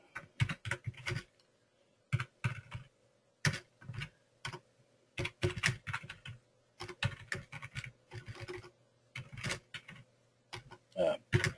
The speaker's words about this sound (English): Can't type. Using a different keyboard, and I'm having a hard time finding the keys.